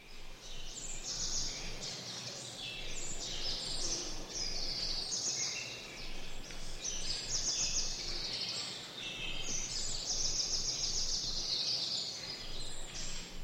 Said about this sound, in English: How monotonous the sounds of the forest would be if the music came only from the top 10 birds.